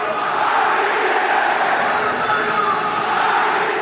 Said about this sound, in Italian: Questo è l'urlo di San Siro dopo il gol che ha aperto le danze